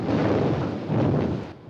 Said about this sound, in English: A depth charge is dropped from the stern. The arrow on the button points straight up. Behind the ship, the sea explodes.